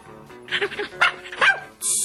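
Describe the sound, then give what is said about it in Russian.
A puppy lets out three quick, high-pitched excited squeals and yips in a row, clear, followed by a sudden burst of hissing noise at the end. The puppy squeals happily as it is being untied. “Щенок радостно завизжал и бросился лизать доктору руки.”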